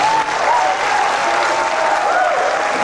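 A crowd applauds and cheers steadily, dense clapping filling the whole stretch with a few raised voices whooping above it, loud throughout without pause.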